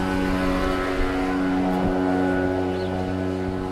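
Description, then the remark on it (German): The small motor engine of a motorized tricycle runs steadily and loudly throughout, a continuous droning hum with a constant pitch and no pauses. No one speaks. “Ein Dreirad. mit Motor.”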